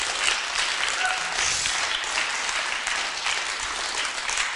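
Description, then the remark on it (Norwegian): An audience applauds steadily for several seconds, a dense, even wash of many hands clapping with no break and no voices standing out, in applause for the two young boys of 12 and 13 who run the sound and the screen. “Nå må dere gi en klapp til den.”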